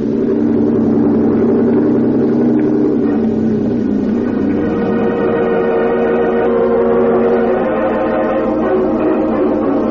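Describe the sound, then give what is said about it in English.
A boat engine drones loudly and steadily for the whole stretch, a low throbbing hum with a slight shift in pitch partway through and no voices, as the boat is brought alongside another vessel to board it before the engine is cut. “Cut your engine.”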